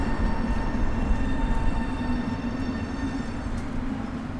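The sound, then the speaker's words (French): A tram rolls along with a heavy, steady rumble and a thin electric whine humming above it, loud throughout and easing slightly toward the end. No one speaks. “Des trams, beaucoup, beaucoup, beaucoup de trams.”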